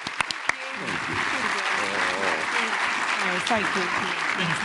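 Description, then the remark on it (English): Sustained applause from an audience for the show's guests, a dense steady clatter of clapping that starts with a few sharp claps, mixed with overlapping voices talking and cheering underneath. “And huge round of applause for our fantastic guests.”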